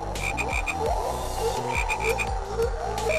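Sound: frogs croaking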